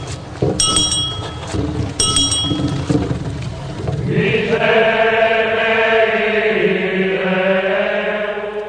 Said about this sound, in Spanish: Tras el suspiro afilado de la campanilla, las voces se levantan para pedir perdón.